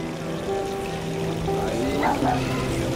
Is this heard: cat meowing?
no